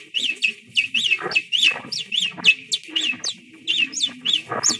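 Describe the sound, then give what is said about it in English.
Naked mole rats chirp in a constant, overlapping chorus of short, high-pitched, bird-like calls, several each second, fairly loud, with faint low scuffling underneath and no talking. “What intrigued Barker was their constant bird-like chirping.”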